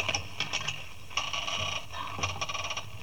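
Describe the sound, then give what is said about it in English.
A rusty door lock grinds and clicks as a key is forced round, a series of rough metallic ratcheting scrapes and squeaks in uneven bursts, fairly quiet, with no voices. “Confound it, this lock must be rusty. No, here it comes. Blast it, did it have to make that noise?”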